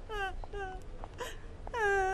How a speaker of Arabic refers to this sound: ما كان هذا؟ طفل مريض أحضروه إلى القسم. لكن لما هذا البكاء الشديد؟ لا علم لدي.